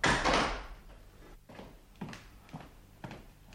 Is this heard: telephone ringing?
no